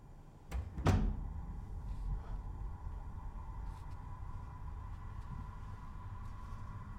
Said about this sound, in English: Betsy watches Holly leave and closes the door.